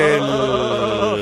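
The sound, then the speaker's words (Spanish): A person imitates a goat with a sustained, wavering bleat, its voice shaking in steady pulses for over a second, loud, with no other talk. “¿Quién es la cabra que está cantando? Yo.”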